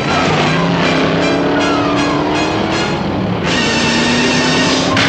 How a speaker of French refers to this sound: Le camion a démarré.